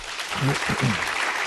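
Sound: audience applauding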